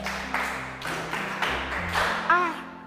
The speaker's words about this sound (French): La pluie. Très bien, applaudissez.